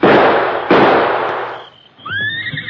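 Two loud rifle shots, fired at masked men on horses about 50 feet away, crack about a second apart, each leaving a long, rumbling tail, and then a high, rising horse whinny follows.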